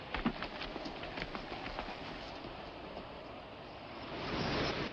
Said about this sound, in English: Riding his chestnut horse with a white flash on its brow, Johnny leads the wagon train across the shallow river.